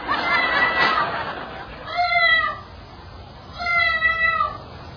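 cat meowing

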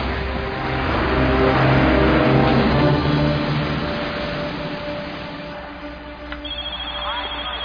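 car engine accelerating

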